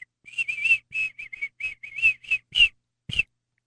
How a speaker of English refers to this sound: No, just do your whistle. Okay.